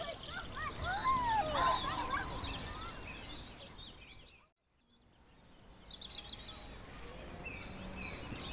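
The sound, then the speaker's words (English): Many birds call outdoors on a beautiful day, overlapping chirps and warbling notes over a steady hiss of ambience. The chorus briefly drops out midway, then resumes with scattered calls. “What a beautiful day. Listen to the birds.”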